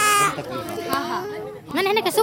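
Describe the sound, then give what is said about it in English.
A toddler, brought into a clinic by a pregnant woman, wails loudly, with a long quavering cry at the start, a brief catch in the middle, and another wavering sob rising near the end. “A pregnant woman walks in with a wailing toddler.”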